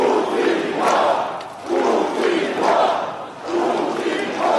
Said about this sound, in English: Putin is a thief, people shouted at a January protest. Alexander Savelyev, a local journalist and human rights activist, says such rallies are unprecedented for Krasnodar.